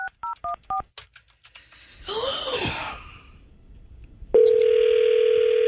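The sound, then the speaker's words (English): A phone number is dialed with four quick, evenly spaced touch-tone beeps, then a breathy sigh, and finally a loud, steady electronic tone that holds to the end. “God, I think I need to call her.”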